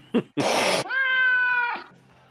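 A cat gives a quick chirp and a brief breathy hiss, then a long, loud, drawn-out meow that trails off, with no talking.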